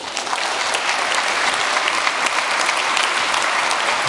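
Steady, sustained applause from an audience, a dense wash of many hands clapping at an even loudness for several seconds with no voices rising above it.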